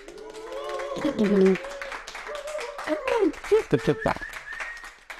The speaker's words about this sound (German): Und ihr habt den donnernden Applaus gehört. Er hätte noch ein bisschen konkreter sein können. Ich sage es, wie es ist. Ich glaube, die Hände sind einfach schwer vom Fotografieren.